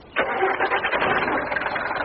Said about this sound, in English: Engine.